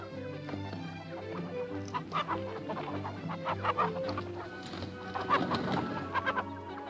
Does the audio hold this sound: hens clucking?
yes